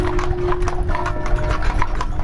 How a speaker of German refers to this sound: Pünktlich zum 10 Uhr läuten sind wir an einer Dorfkirche vorbeigekommen. Das klang schon gut, Pferdetrappe und große Glocken.